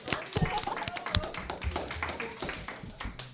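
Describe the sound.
A small group claps for a few seconds, a dense, irregular patter of sharp claps at steady moderate loudness, with faint murmuring voices underneath.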